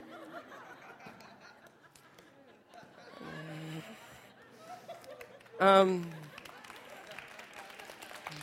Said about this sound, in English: No, don't clap.